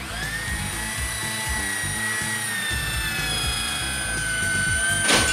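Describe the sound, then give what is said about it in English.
A high-pitched Fix-O-Matic super drill whines steadily, its tone holding and wavering over a grinding rumble, then a bright burst of crunching glass as it breaks through a window at the end. “You've broken my window.”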